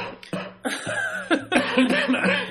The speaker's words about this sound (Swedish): Den här hostan tar lite fokus från din historia.